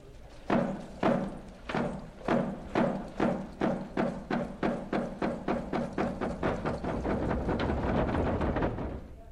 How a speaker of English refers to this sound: In the next Chinook, we'll hear more of the eagle's heartbeat in the drum of the wolf dance.